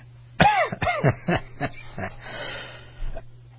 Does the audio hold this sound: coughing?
yes